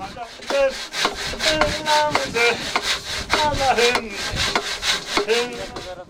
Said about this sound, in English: Master carpenters work at their own pace and rhythm, assembling sections of framing and sawing roof timbers.